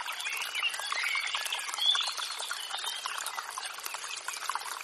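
A small stream beside a path under tall trees burbles and trickles steadily, a continuous bright babble of flowing water with faint bird chirps mixed in, and no voices.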